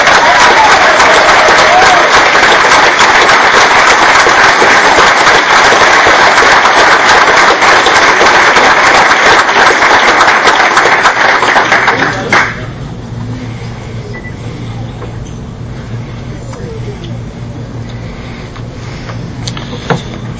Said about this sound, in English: I'm going to call them up one at a time, but they're all going to stay and wait. This is a whole year's worth of work. We'll applaud for them individually.